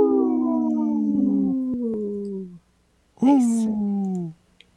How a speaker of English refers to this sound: supported by Howling for Wolves, protecting wolves for future generations. Howl! Howl! Howl!